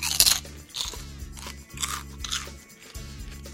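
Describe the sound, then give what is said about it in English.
Crisp, crackly crunches of someone biting and chewing baked chicken skin, with most of the fat baked out, during a live broadcast: several loud bursts spaced about half a second apart, over a steady low hum of music playing out. “I'm just going to let the music play out while I have chicken skin.”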